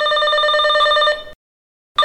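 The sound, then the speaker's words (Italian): A telephone rings loudly with a bright, steady electronic trill for over a second as a listener calls in to a radio discussion, falls silent briefly, then starts ringing again at the end. “Abbiamo un ascoltatore che vuole partecipare alla nostra discussione con una telefonata.”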